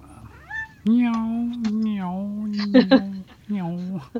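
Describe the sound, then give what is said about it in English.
A female cat meows: a brief chirp, then a long, drawn-out wavering yowl lasting about two seconds, followed by a shorter meow. No talking. “My cat's talking to me.”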